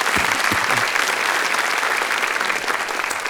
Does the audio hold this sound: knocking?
no